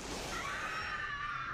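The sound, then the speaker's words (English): A loud, sustained high-pitched scream of terror, piercing, holding steady for over a second with a faint shrill edge and no talking around it, like a horror film shriek. “A victim waiting to scream.”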